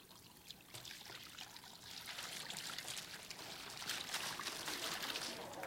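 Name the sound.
liquid being poured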